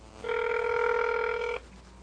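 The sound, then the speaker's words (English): A single steady electronic telephone ring from a call placed on a regular phone, an even, buzzy tone rich in overtones, holds for just over a second and then cuts off abruptly, with no voices. “Answer the phone, you dumb.”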